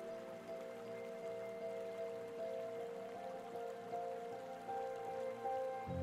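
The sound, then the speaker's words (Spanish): Gentle water from a spring of pure, drinkable, crystal-clear water flows in a soft, steady babble for the whole stretch, an unbroken wash of trickling sound with a faint sustained tonal hum beneath it and no voices. “Pronto escuchas un suave sonido de agua, pero esta vez no proviene de las olas del mar.”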